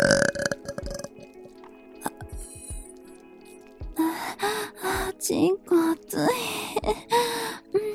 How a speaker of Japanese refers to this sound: ゲップセックス感じちゃう。ゲップ好き。